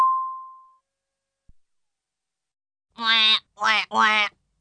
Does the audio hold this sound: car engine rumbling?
no